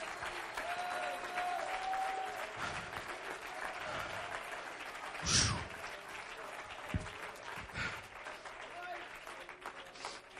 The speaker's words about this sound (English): Let's clap our hands. Let's love the Lord.